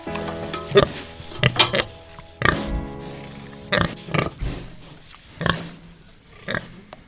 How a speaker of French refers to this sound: Et là cet après-midi on va visiter une exploitation au Brac et il y a quelques cochons.